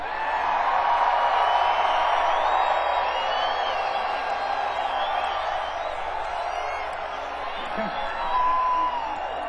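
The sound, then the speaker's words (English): A large crowd screams and whoops at full volume, a dense, sustained roar of high-pitched voices that holds steady for the whole stretch with no break. “would like to hear you guys scream as loud as you possibly can right now.”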